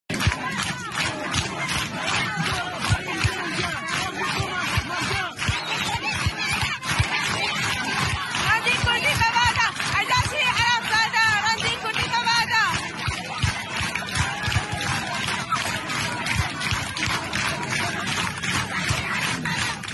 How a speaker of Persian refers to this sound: مراسم سردشت، مراسم خاکسپاری هیمن حمزه کولبری که با شلیک مستقیم نیروهای سرکوبگر کشته شد.